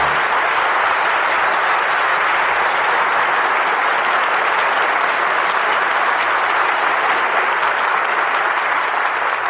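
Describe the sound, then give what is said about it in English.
Steady, sustained applause from an audience as the curtain falls on Johnny Apollo, calling the stars Edward Arnold, Dorothy L'Amour and Burgess Meredith back to the footlights; a dense wash of many hands clapping at an even, loud level throughout with no voices or breaks. “Your applause calls our stars back to the footlights.”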